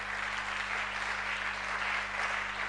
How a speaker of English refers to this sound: Not everybody is clapping.